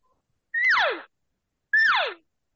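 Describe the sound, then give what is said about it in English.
Two imitated cow calls, each a loud, short, nasal squeal that starts high and slides steeply downward, separated by about a second of silence. No talking. “That's a cow sound.”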